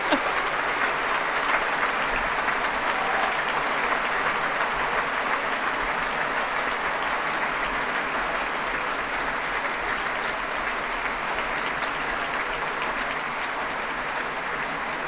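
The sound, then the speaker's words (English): Sustained, steady applause from a large audience and the BBC Scottish Symphony Orchestra at the BBC Proms, a dense wash of clapping that holds at an even loudness for the whole stretch without pause. “Still clapping, musicians and audience.”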